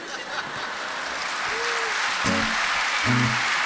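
A crowd claps steadily in dense, continuous applause that holds at full strength throughout, with a couple of brief voices or shouts rising out of the clapping near the end.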